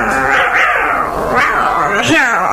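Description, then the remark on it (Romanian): Several cats meow in overlapping, rising wails, with a faint whimper like a puppy's mixed in, fairly loud over about two and a half seconds, as the cats wait to be fed. “Stați, stați, stați pisicuțelor că vă dau la toate de mâncare, îndată, îndată.”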